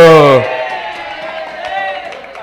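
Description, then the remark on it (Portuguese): A loud, distinctive shout bursts out for under half a second, then gives way to sustained, wavering cheers and whoops from a crowd that carry on steadily to the end. “Galera, esse vai gritar, viu?”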